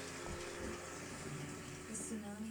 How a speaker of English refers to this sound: Oh! Oh, water. Gross.